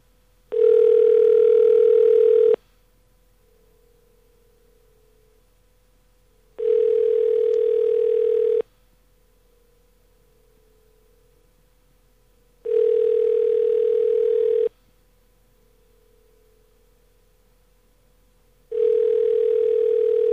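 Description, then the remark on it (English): A phone ringback tone repeats four times, each steady buzzing ring lasting about two seconds with roughly four-second gaps of near silence, and nobody picks up. No one speaks. “It just doesn't answer.”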